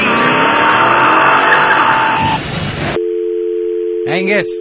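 A car engine roars loudly for a couple of seconds and pulls away, then cuts to a steady electronic tone and a brief warbling chirp.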